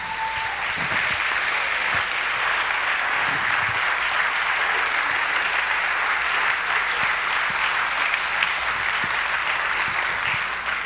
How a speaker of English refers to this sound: Let's hear it for these youth of ours, eh? Whoa!